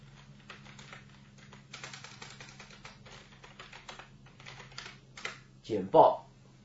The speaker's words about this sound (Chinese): 那我没关系，我先打字在里面 ，edit text， 好。